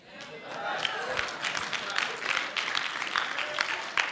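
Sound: audience clapping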